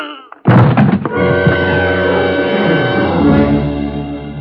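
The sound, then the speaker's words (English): A single heavy blow of a gun butt swung into a man's skull, followed by a few quick secondary knocks and a sustained, ringing dramatic tone that lingers to the end. “I beat him to it and swung it straight into his skull.”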